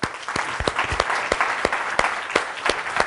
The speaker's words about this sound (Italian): Anche qui mi faccio aiutare dal nostro ospite, quindi invito sul palco e vi invito a fare un applauso